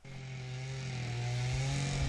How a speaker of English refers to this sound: Any modern-day epic of life in the Amazon would have to feature the sound of chainsaws as its theme song. They're as common here in the state of Mato Grosso as dust devils and pickup trucks.